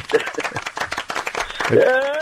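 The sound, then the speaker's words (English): A short burst of audience applause, dense overlapping claps at steady loudness, with a rising voice or whoop standing out near the end. “Well, crikey, we better make sure the applause works,”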